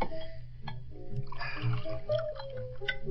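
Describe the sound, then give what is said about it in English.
A double whiskey pours steadily into a glass for a few seconds, a gurgling, rising splash, with faint clinks and light background murmur. “One more double, chum. Let me pour it myself in.”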